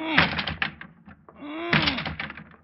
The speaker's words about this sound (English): I'm going to lunge at the door with my shoulder. Go ahead. All right, here I go.